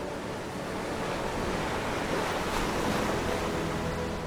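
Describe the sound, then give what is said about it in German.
Steady ocean waves wash and surge continuously while wind blows across the microphone, a broad, fairly loud rushing sound with no voices, swelling slightly in the middle. “Mit einem Knarren richtet sich der Mast aus und kurz darauf beginnt das Schiff seine Reise über das Meer.”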